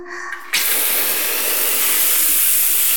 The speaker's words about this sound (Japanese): ちょっと待ってね。今シャワー出すから。